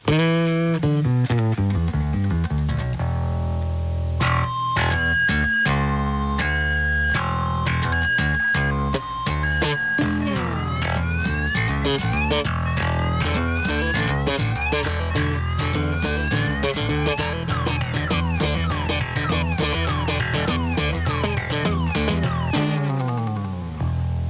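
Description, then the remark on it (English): A loud car alarm cycles through its electronic patterns for about 24 seconds: rapid steady beeps, then repeating rising whoops and warbling siren tones, with no talking over it. “Hi, most people hate the sound of a car alarm.”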